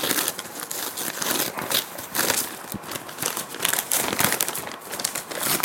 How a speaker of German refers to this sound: Das Geschenk und ich werde gleich nochmal was dazu sagen, aber vorher möchte ich, dass du mein Geschenk auspackst.